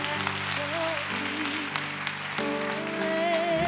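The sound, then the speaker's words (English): An audience claps for the Lord in a dense, continuous patter while sustained organ-like chords hold and shift underneath; the clapping stays fairly loud throughout, with no one speaking. “Clap for the Lord one more time, Pastor.”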